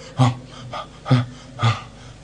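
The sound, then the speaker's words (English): A voice imitates a very wealthy man's labored breathing: three or four heavy, raspy, voiced gasps in an uneven rhythm, moderately loud, with no talking. “The way he was breathing, I was afraid for him.”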